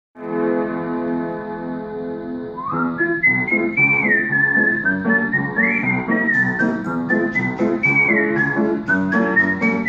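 A French song about the guide dog of blind people opens on a sustained, droning chord, then a bright, high whistle-like melody enters over a busy harmonic accompaniment, playing steadily and fairly loud with no talking.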